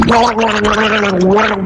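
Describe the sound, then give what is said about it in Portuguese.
Someone gargles steadily for under two seconds, a loud, voiced, bubbling rattle holding one low-pitched tone with a rapid fluttering texture throughout, and no speech. “Gargarejo, hein?”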